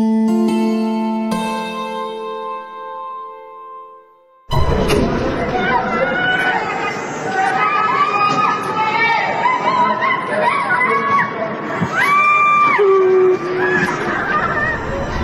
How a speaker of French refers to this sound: Un immeuble en feu à Urumqi, en Chine. On entend les cris des résidents qui appellent au secours dans cette vidéo terrible postée sur TikTok.